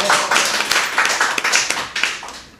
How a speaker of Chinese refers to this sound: 哎，俾掌声。